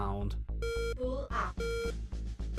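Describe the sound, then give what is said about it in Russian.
In the military flight simulator Zero Side, a repeating electronic warning beep sounds in short, evenly spaced bursts over a low rumbling engine-like hum. The loud, steady, mid-pitched tone with bright harmonics warns that the plane, flying toward the ground at high speed, will crash unless pulled up. “Это звук, который предупреждает вас о том, что вы разобьетесь, если не поднимете самолет.”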